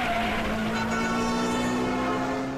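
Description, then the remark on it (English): A Chrysler Pacifica drives off, its engine a steady droning hum with a sustained low tone that holds for a couple of seconds and eases slightly at the very end. “Okay, here he goes. He's heading out.”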